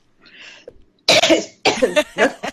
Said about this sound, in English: Are you still having your cough? You've got a bit of a cough for a few days now already.